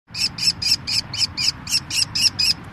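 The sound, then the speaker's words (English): A rapid series of about eleven shrill, high-pitched calls from baby kestrel falcons, evenly spaced, repeating insistently over a low rumbling background, as a Hawk Watch International volunteer pulls them out of one of 150 nest boxes put out across the Wasatch Front. “Right now, he's reaching up into one of the 150 nest boxes the organization has put out across the Wasatch Front and pulling out baby kestrel falcons.”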